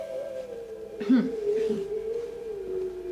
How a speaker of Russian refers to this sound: Я слышу, опять воет собака.